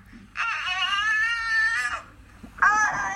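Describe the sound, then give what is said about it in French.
An infant wails in distress, a long sustained cry lasting over a second, then a short pause before another loud cry begins. Fairly loud, with no talking. “Donc là, on voit bien que le son émis par un bébé est caractéristique d'une souffrance évidente.”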